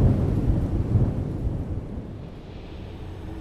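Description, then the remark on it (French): A deep, loud rumble of thunder rolls in, its low boom gradually softening and trailing off into a lingering echo, with no voices present. “Un coup de tonnerre éclate puis s'estompe suivi de son écho.”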